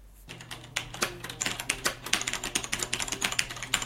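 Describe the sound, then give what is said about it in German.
Rapid, uneven keystrokes clatter from a Cherry G80 mechanical keyboard with MX switches, fairly loud, with sharp clicky transients in a steady typing rhythm and a faint hum underneath. “Die einfachste und günstigste Möglichkeit, an eine mechanische Tastatur zu kommen, ist der Erwerb einer Cherry G80.”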